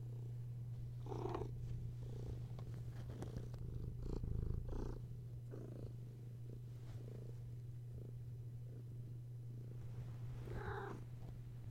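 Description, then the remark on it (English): A cat purrs steadily, a continuous low rumble throughout, with a few soft rustles and brief higher-pitched chirps over it. “Listen, listen, I'm a cat like you, and I'm trying to record something here, so can you show me some damn respect?”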